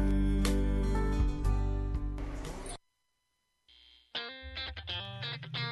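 Loud, dense band music with heavily distorted guitar fills the space, cuts out abruptly into about a second of silence, then returns with punchy, chopped rock guitar and bass.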